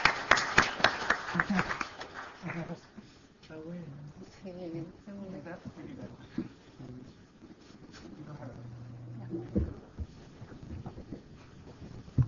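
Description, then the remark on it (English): A brief burst of audience applause, dense and fairly loud, fades within a couple of seconds and gives way to a person talking steadily. “Okay, thank you very much. Have to clap.”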